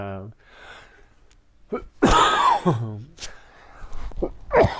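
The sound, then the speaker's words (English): A person coughs in several harsh, sharp bursts spread over a few seconds, with throaty voiced sounds and breaths in between; the coughs are fairly loud and uneven in rhythm. “Sorry about that. I didn't want to cough on you guys.”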